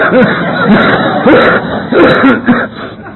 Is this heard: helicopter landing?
no